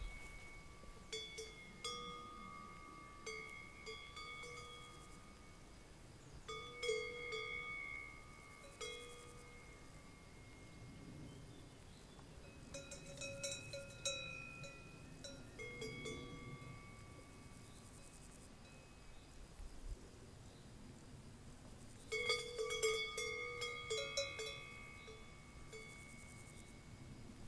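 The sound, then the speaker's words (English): Cowbells on three cows in a field in empty countryside, recorded on an iPhone, clank irregularly in scattered bursts, several bells of slightly different pitches ringing together and then fading, with cicadas and soft, steady outdoor ambience in between and no voices. “And I'm just going to point the iPhone in their direction to hear the typical sound of the cowbells echoing in the otherwise deserted, empty countryside.”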